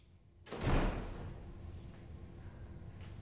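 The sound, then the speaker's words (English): A door suddenly swings open with a loud rush of sound, then settles into a steady hum of ambience. No voices are heard. “He's about to get to his feet again when the door opens.”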